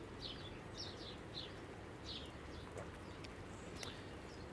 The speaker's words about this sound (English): So anyway, it's Mr. Blackbird, at least I think it is.